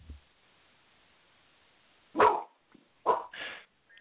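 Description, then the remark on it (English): A puppy barks in short, sharp yaps: one bark, a brief pause, then a quick pair of barks. They ring out clearly over a quiet background with no talking. “Puppy.”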